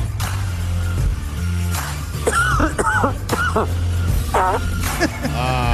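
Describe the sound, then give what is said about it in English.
A cough, then a fart, set against a steady low rumble like an idling engine, with a few squeaky, wavering tones near the end. “The cough that results in a fart.”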